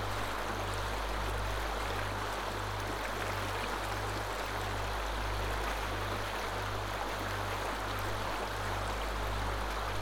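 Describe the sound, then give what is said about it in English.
Cool mountain stream water flows steadily where it meets sun-warmed water, with a constant rush of water and a low rhythmic throbbing hum pulsing underneath. No voices are heard. “The cool mountain water moves with the sun-fed other, creating a flow of adjustable comfort.”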